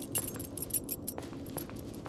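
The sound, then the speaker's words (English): A bunch of keys that were hanging on a wall jangles for about two seconds, a quick run of bright metallic clinks and jingles over a low steady rumble, at moderate volume, with no one talking. “Oh, there's a key hanging on the wall.”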